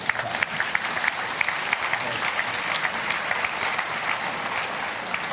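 Steady audience applause welcoming authors Pavel Kochut and Jaroslav Rudisch onto Deutschlandfunk Kultur's Blue Sofa in Leipzig, a dense patter of many hands clapping at an even level for several seconds, with no voices rising above it.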